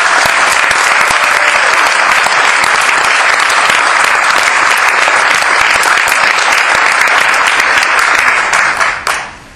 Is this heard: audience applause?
yes